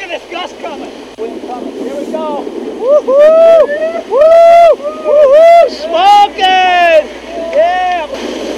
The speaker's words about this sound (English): over on Phil's boat, when they saw the gusts coming and got out into the wind, it sounded like this